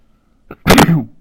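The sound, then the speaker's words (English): A single loud sneeze: a brief sharp intake followed by an explosive burst of breath, heard on its own with no talking. “Just sneezed.”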